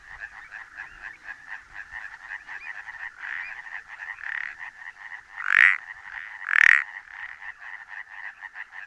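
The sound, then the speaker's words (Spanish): An Iberian painted frog, calling with half its body below the water surface, gives a loud double-note call, two strong notes about a second apart, rising above a steady, softer chorus of frog calls trilling throughout. “Esta doble nota corresponde al sapillo pintojo. Canta entre dos aguas, con medio cuerpo bajo la superficie.”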